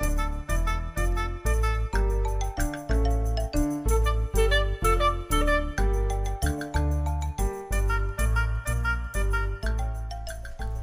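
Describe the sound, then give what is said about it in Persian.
A musical doorbell chimes a bright, repeating melody of steady, evenly spaced tones, loud, playing on for about eleven seconds with no voices, as a visitor rings at the door. “ای زنگ در است، حتما خودش است.”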